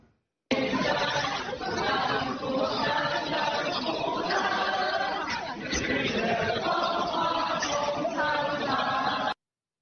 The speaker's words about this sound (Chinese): 就是针对星期三有数十名复旦的学生，他们选择在食堂里来高唱他们的校歌，这里面含有思想自由这些种种的歌词啊，那么很明显是要在抗议这个章程的修改行动。